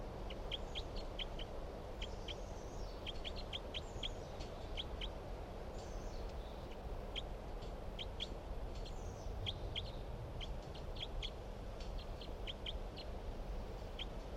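A wild forest bird, bird number 366, recorded at 9:27 a.m., gives repeated short, high-pitched call notes in loose irregular bursts, fairly soft, over a steady low background hiss; no one speaks.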